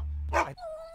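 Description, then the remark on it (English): A single sharp, loud dog bark, followed by a thin, steady whine that lingers until the end, over a low background hum. “Ooh, there's a dog.”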